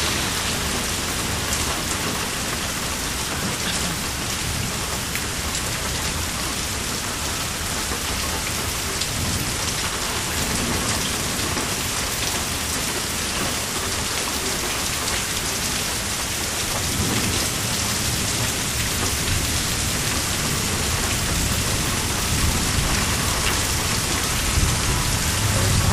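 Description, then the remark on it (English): Heavy rain pours in a dense, steady hiss throughout, with low rumbles of thunder rolling underneath at times. No one speaks. “That sounded heavy too, and that was hell.”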